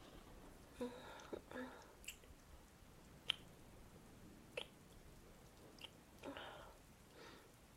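Wet kissing sounds of a boy and a girl making out in the rain, parked in the corner of a student parking lot: a series of soft smacks and squelches at irregular intervals, with faint breathy murmurs and a quiet hiss underneath.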